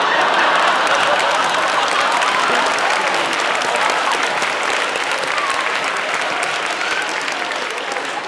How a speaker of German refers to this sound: Der Jubel in den Straßen ist kaum zu beschreiben.